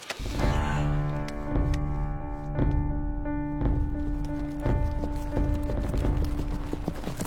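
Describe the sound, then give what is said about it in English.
Slow, steady horse hooves clip-clop at roughly one step per second, then the horse halts, over a sustained droning musical tone that fills the background throughout. “The horse halts downright.”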